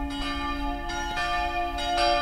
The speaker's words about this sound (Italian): È sera al monastero di Far alle porte di Zurigo. La campana invita alla preghiera del giovedì.